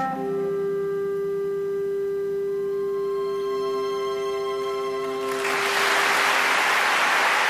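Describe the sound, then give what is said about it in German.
A held closing chord of a song rings on, then loud audience applause breaks out abruptly near the end, a dense, steady clatter of many hands clapping. “Applaus, that's life.”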